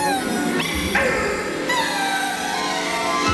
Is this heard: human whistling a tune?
no